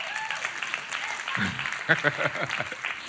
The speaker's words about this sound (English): We can clap.